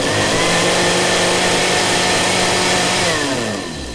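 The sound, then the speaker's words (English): A food processor whirs loudly and steadily with a buzzing motor whine for several seconds, whisking toast with peanut butter, strawberry jam and tartar sauce into a drink for the Queen's Jubilee breakfast, then its pitch sags and it starts winding down near the end. No one speaks. “the Queen having her Jubilee breakfast treat of toast with peanut butter, strawberry jam and tartar sauce whisked in a food processor so she could drink it from her special American-style sports drinks hat during the rather tedious boat parade.”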